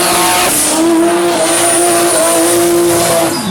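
A drag racing car at the 14th Festival de Arrancadas de Carros e Motos roars loudly, its engine revving hard and climbing in pitch as it accelerates, with a hint of tire squeal. No one speaks.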